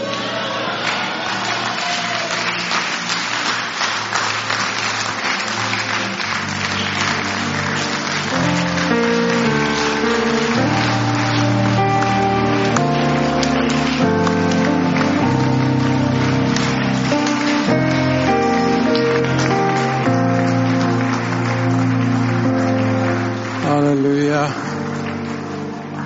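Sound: audience clapping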